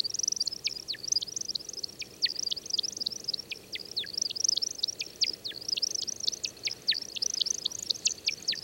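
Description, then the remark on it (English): A male American woodcock's display descent, dropping from the sky in an unpredictable zigzag after a spiraling flight: a rapid, continuous stream of high, liquid chirping whistles, many sharp downward-swooping notes tumbling over each other for several seconds, moderately loud over quiet background. “Finally, at the apex of his flight, he suddenly drops from the sky and falls earthward with an unpredictable zigzag motion, making chirp-like whistles as he descends.”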